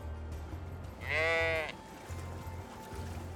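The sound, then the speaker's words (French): A single sheep, the ewe Fiona in Britain, bleats once, a loud wavering baa lasting about half a second, with a low steady rumble of background noise before and after. “Cette brebis, c'est Fiona.”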